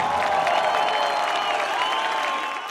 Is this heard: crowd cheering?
yes